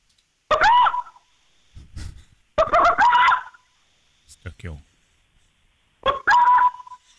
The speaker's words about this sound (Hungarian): Hogy milyen hangot ad egy tukán.